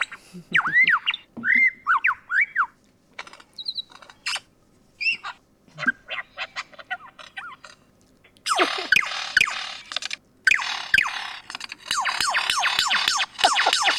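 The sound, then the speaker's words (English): A person vocally mimics lyrebird song, producing a rapid medley of whistles, warbles, sharp clicks and siren-like sweeps, loud and close, with no talking during the performance. “Are you going to give him a bird song? Yes. There we go. The full lay bird.”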